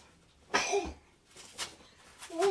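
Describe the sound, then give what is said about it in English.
A baby boy sneezes: a sharp, breathy burst with a faint voiced squeak, followed by a couple of softer snuffly bursts. “Bless you, darling.”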